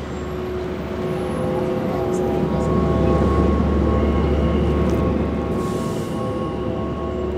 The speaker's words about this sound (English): Okay, so we're gonna let you hear this hum. Ignore the honking horns, ignore the drummer, ignore the crowds, ignore the squeaking brakes, and listen for this low, vibrating tone.